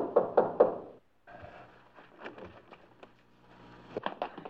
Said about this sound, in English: How can anybody sleep with you hammering on the door?